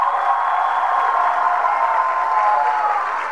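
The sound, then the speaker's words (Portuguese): A steady round of applause from a crowd at an event on a campus of the Universidade Federal Fluminense, dense and even clapping that holds at a constant loud level for a few seconds without any voices over it. “Tanta salva de palmas à Conceição de Maria Costa Muniz.”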